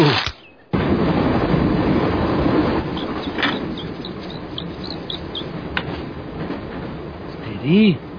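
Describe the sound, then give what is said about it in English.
A passenger train rumbles steadily along the rails, a dense roar with occasional clicks and clatters, briefly cutting out near the start and ending with a short rising tonal sound. “Attention, passengers. The train has been temporarily delayed because of a discarded couch on the tracks.”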